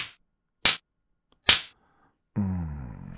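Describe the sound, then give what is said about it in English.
Two sharp, loud cracks of a belt striking skin, spaced just under a second apart, followed by a sustained voiced sound. “After the first blow lands and the shock and the pain set in, then the anticipation and the inevitability of the situation start to work on your mind.”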